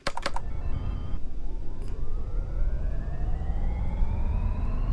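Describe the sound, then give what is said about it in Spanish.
A few quick key clicks, then the simulated engines of an airplane designed by Cristian Cruz León start up: a steady low rumble with a whining tone that climbs gradually in pitch, loud and continuous, with no voices. “Es impresionante el sonido de los motores.”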